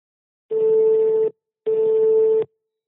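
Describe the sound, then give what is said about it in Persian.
A phone line rings as a call is placed: two steady, buzzy tone bursts of almost a second each, separated by a short pause, with no voices. “خیلی خب، تماس اولو بگیریم ببینیم چی میشه.”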